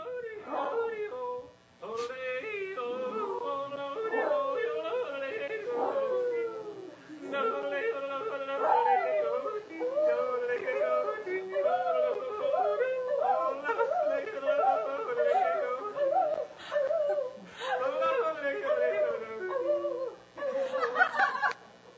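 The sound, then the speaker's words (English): A yodeling toy dog, received as a Christmas gift, yodels a warbling, sing-song tune with a tinny, howling quality, playing steady for about twenty seconds with brief breaks and no one talking. “So I got a yodeling dog for Christmas.”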